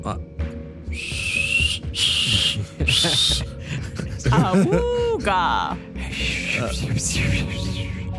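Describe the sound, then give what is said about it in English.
A voice imitates a badly blown whistle: three airy, hissing blasts with a thin wavering tone, then a warbling vocal hoot and a few more breathy, sputtering puffs. “Like he's never blown a whistle before. So I blow a whistle.”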